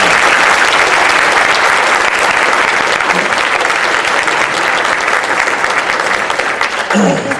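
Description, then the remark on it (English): A crowd applauds steadily at a debate held at the Full Gospel Christian Center in Port Jefferson Station, Long Island, a dense, loud wash of clapping that holds for several seconds before beginning to thin at the end. “Now, let's have a round of applause.”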